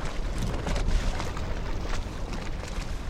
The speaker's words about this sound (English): Fish are jumping at Barkley Lake. As a fishing boat zooms by, huge silver fish fly out of the water in its wake. These are Asian carp.